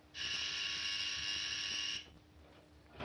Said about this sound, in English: Will you please take your hand off that buzzer, Mr. Harden? We have other patients in the hospital, too, you know.